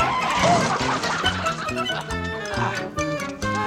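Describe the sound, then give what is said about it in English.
A chicken clucks loudly and continuously amid a busy, crowded din of other animal noises, including grunts that sound like a pig, with no speech. “Oh, come here, what? Chicken.”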